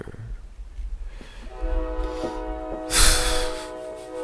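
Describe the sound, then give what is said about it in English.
A train passes outside, its low rumble joined by a long, steady horn blast that holds for a couple of seconds, with a brief hissing burst partway through; no one speaks. “Yo, first of all, fuck this train guy.”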